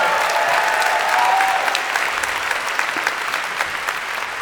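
A room full of people applauds steadily, the dense clapping holding at an even, fairly loud level from start to finish with a few sharper individual claps standing out.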